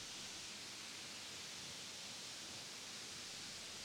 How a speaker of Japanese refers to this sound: そう、あれはルフォート滝。エルフの森の奥地にある直瀑の滝だよ。